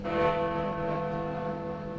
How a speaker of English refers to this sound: Chiming for women. Chiming for women. That's why it's the most chimes.